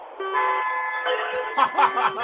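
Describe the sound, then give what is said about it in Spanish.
Loud horns blare in a long, sustained, overlapping chord, then give way to choppier bursts as voices and laughter break in over the fading honks. “a la de tres, chicos, tenéis que darle un bocinazo espectacular.”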